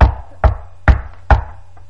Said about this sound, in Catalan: El llop va anar altre cop a casa de les cabretes i va trucar a la porta.